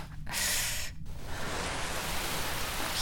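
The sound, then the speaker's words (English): A hand sweeps through rain frozen in midair, drawing patterns in it: two quick bright hissing swishes give way to a steady crackling wash of rain-like noise, with no voices. “You can draw patterns in the rain. Sweep out great bands of it.”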